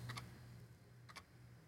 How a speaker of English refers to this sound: It is also weirdly one of the loudest clicking clocks. Like this thing.